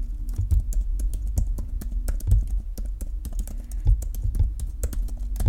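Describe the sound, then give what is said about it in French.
Steady typing on a scissor-switch keyboard, a quick stream of soft key clicks with occasional heavier taps, no voices. “Et voici ce que ça donne quand on tape sur un clavier à mécanisme ciseau.”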